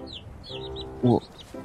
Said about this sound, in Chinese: 你以为你是鸭子吗？还嘎？